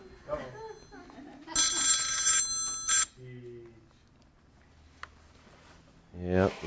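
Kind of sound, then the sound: household object, mobile phone ringing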